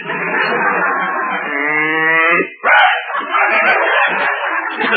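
cow mooing

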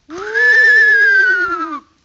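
horse whinnying

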